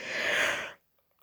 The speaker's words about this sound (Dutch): Sorry hoor, ik moest even gapen. Ik lig al in bed vandaar.